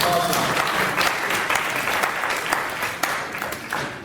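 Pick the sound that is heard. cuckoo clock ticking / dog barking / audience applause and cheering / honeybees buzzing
audience applause and cheering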